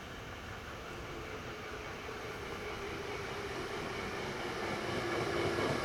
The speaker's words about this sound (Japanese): 皆様、まもなく3号線に京都河原町方面へ向かう電車が到着します。危険ですので黄色い線の内側にお下がりください。